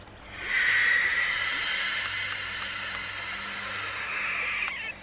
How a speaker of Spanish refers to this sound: Me mataste con esto. La lechuza. ¿Lechuza? Sí, hizo un sonido.